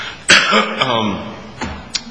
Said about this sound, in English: I've got a bit of a cold here, so I'm fighting off a cough. I'll try to do my best.